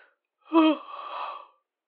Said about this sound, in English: He yawns down the phone. It's gone 2 a.m, and it's been a big day, and we both need some rest.